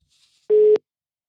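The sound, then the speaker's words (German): A single loud burst of a phone line's ringing tone, a steady electronic hum-like beep lasting a fraction of a second before cutting off abruptly with a click, then silence. “Und da wollen wir doch einfach mal schauen, wenn es jetzt, und da klingelt's.”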